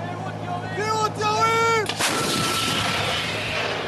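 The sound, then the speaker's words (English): An artillery crew in southern Israel yells "Warning, firing" over a low engine drone, then a massive self-propelled artillery gun fires a shell toward a target in the Gaza Strip: one loud, sharp blast that trails into a long, rough rumbling roar. “They yelled, "Warning, firing," before the gun belted fire and smoke and sent the explosive hurtling toward a target in the Gaza Strip.”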